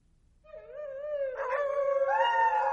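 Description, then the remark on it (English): A dog howls at night in a long, sustained, wavering cry that rises and swells, with a second voice seeming to join partway through, growing louder toward the end. No one speaks. “Loud howls sounded in the night.”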